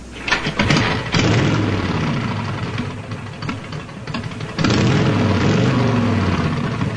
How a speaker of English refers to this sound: Harley Davidson.